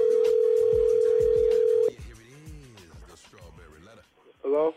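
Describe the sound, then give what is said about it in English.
A steady, loud telephone tone as a call is placed to someone's sister hums for about two seconds, then cuts off as voices start talking; a short burst of phone-line tones sounds near the end. “We're calling your sister”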